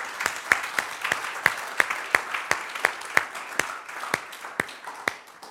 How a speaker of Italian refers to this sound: Grazie, facciamo un applauso ai nostri.